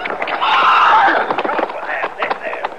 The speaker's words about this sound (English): How about the horse, Chester? Ain't nothing broke that I can see. See if he'll stand. Come on, boy. Come on.